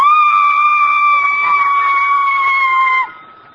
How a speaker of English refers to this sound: Oh, but I have a very unusual voice. I hit a high C above a high A. Listen.